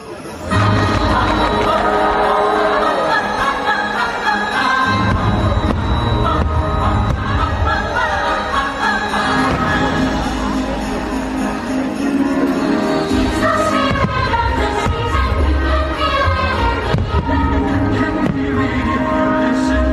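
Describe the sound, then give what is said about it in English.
Deep booming firework bursts thud repeatedly through a loud, continuous wash of orchestral music, with a crowd murmuring and cheering faintly in the background. “I love the fireworks themselves a lot, but I like the music that accompanies them just as much”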